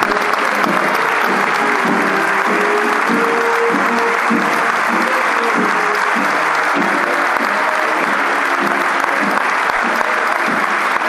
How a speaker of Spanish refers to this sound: Un aplauso para ella.